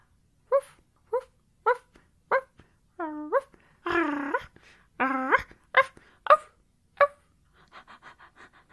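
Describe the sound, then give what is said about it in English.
A woman's voice imitates a dog: several short, evenly spaced barks, then drawn-out whining howls, a few more sharp barks, and quiet panting breaths at the end, clear. “You want me to bark like a dog?”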